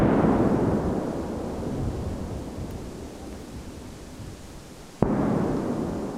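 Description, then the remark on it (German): Deep, rolling blast rumble from the controlled detonation of explosive ordnance in a wooded area in Borgsdorf around 11:45, five large detonations in quick succession that make the ground vibrate, slowly fading, then a second sharp bang followed by renewed low booming. No talking. “5 große Einzeldetonationen sind direkt nacheinander hör- und spürbar.”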